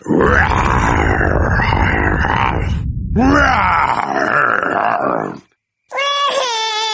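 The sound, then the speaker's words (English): Daddy Pig's voice growls and roars, imitating a huge, fierce dinosaur, in long, loud, rasping bursts, then breaks off briefly before a higher, wavering groan finishes the imitation. “Living outside was a huge, fierce dinosaur.”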